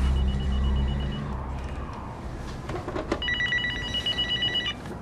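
A telephone in a bedroom rings once with a bright, warbling trill lasting about a second and a half, following a stretch of low droning background rumble; it is a collect call from the Department of Corrections.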